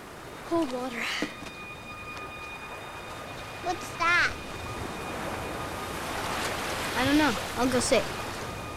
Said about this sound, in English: Waves roll onto the shore.